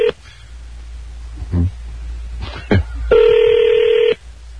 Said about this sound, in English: Oh, no one's going to answer the phone now.